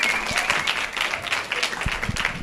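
Steady applause from an audience, many hands clapping in a dense, continuous patter at a fairly even level throughout, with no voices standing out.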